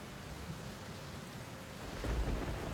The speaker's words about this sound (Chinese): 半夜里，旺儿叫一个炸雷惊醒了，接着他听见屋瓦上噼噼啪啪的声音。过了一会儿，他才意识过来，下雨了。